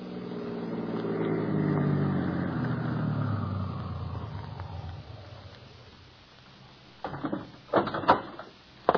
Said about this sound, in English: Because at this very moment, Gus Jansen glances at the slip of paper in his hand, the prescription blank he just stole from Mr. Eddy, stops his car in front of a rooming house.